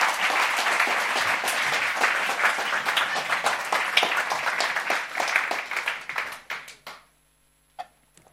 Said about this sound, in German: Also, ich würde sagen, das Team hat einfach voraus mal einen riesen Applaus verdient. Wir machen den Applaus für das Team.